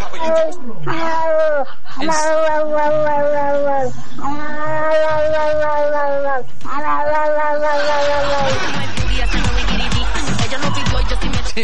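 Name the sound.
cat meowing and yowling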